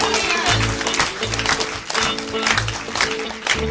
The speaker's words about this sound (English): Keep clapping.